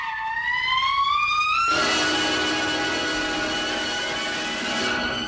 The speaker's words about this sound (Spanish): Digo, no, no, no, empieza con el alarido ese de trompeta que está ahí, que yo creo que tú lo escuches ahora, y yo suelo decir que eso es un elefante que había tomado clases de trompeta.